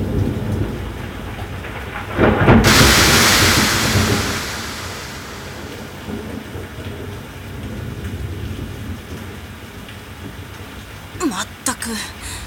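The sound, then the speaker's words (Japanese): Steady rain pours throughout as a loud thunderclap bursts in and rolls off into a long fading rumble, with a few sharper crackles near the end, the centre of the rain cloud directly overhead. “頭の上まで雨雲の中心が来たようだ。上から来るぞ、気をつけろ。”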